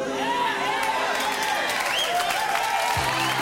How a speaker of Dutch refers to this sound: Applaus.